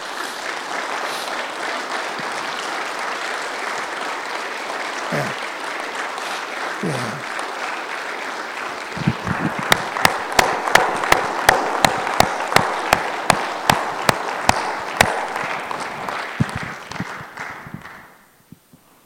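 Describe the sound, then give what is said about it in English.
A large church audience applauds steadily for the single parents among them, a dense wash of clapping with a murmur of voices, then a few loud, rhythmic unison claps punch through before the applause fades out. “would you stand and please applaud those single parents in our midst that strive to raise godly children by themselves and let them know how much you love them.”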